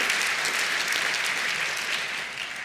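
Steady applause from an audience, a dense crackle of many hands clapping at a fairly even level for a few seconds, easing off slightly at the end.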